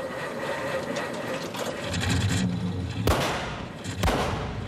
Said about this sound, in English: But I love this moment, because what really makes it is Tuvok's reaction when the truck backfires.